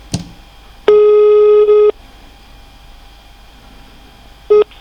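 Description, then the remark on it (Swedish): A steady electronic telephone queue tone sounds for about a second on a call to Ekobrottsmyndigheten while all operators are busy, followed by a short repeat of the same tone near the end, with faint line hiss and no talking. “För närvarande är alla telefonister upptagna. Men vi besvarar ert samtal så fort vi kan.”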